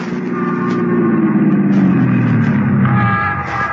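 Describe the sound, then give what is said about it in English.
A police squad car's engine drones steadily, its pitch sliding slightly as it hurries along at a constant loudness back to Barbara Carroll's apartment, with no voices. “He climbed into a squad car and hurried back to Barbara Carroll's apartment, where Jack Olson lived as a boy.”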